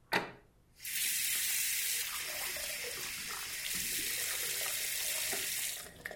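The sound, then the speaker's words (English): Water pours steadily from a tap onto a cup of lentils in a plate for about five seconds, a continuous hissing splash that starts abruptly and cuts off near the end, with no voices. “I pour some in this plate. And then some water on it.”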